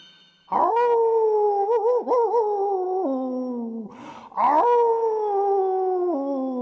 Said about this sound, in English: And again there came a threatening howl from outside.